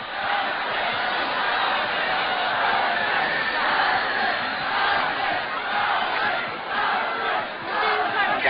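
A dense crowd of spectators at a cockfight shouts loudly and continuously, voices overlapping in a rhythmic, pulsing chant as they call out the colours they bet on to win, unbroken for the whole stretch.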